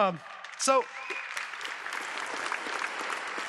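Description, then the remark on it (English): A crowd breaks into steady, dense applause that continues at an even level, with a brief voice or whoop at the very start. “Yeah, anytime you want to applause.”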